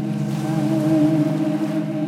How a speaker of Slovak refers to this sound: Z diaľky ešte k vám slabo doliehajú zvuky prečplávajúcich delfínov, až pomaly stíchnú.